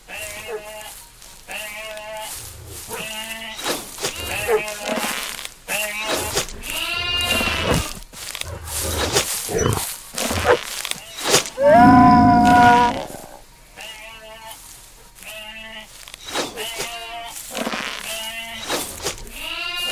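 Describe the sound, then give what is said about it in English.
Sheep bleat over and over, a whole flock of quavering cries overlapping, with one especially loud, drawn-out bleat rising above the rest partway through. “The Warlock's sheep army has fled.”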